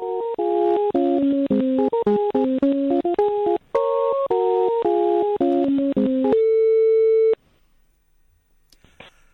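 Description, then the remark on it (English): A loud electronic telephone busy signal on a call to the Hotel Icefjord in Greenland at 7 o'clock at night: a rapid run of bright beeping tones stepping up and down in pitch for several seconds, ending on one long held tone, then near silence. “This is the answer phone message on one of the hotels in Greenland.”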